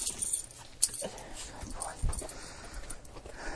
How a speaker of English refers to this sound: Littlest dog. Come here.